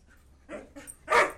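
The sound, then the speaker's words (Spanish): A dog named Lobo barks three times in quick succession as it runs into the house with two boys, each bark sharper and louder than the last, ending with a loud yelp. No one speaks. “Guillermo, Ernestito y su perro Lobo entran corriendo.”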